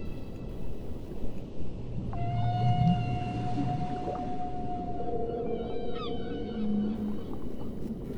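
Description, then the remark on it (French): A long, steady whale tone holds a single pitch for several seconds, joined by lower moaning calls and brief upward chirps over a constant wash of underwater noise. “Jason et Lubin, les deux frères requins, nagent à travers les vagues quand soudain, ils aperçoivent une baleine qui se nomme Mouad.”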